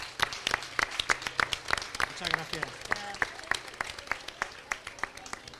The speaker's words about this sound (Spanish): Un aplauso para ellos.